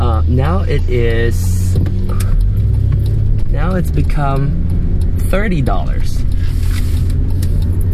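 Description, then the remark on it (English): A big trash truck in front of the speaker idles, its deep, steady engine rumble running continuously beneath a person talking in the foreground. “oh, there's a big trash truck in front of me.”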